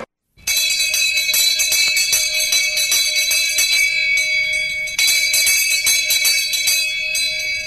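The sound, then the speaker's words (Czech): A loud bell starts after a brief silence and rings continuously to the end, a bright, metallic, rapidly rattling clang with a steady high pitch and no voices. “Ovo zvono treba da nas podsjeti da oko 9:30 idemo u Šabac na veliki odmor među mlade fizičare, članove društva Physics.”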